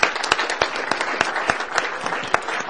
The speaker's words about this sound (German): Lasst uns den beiden doch mal einen herzlichen Applaus geben.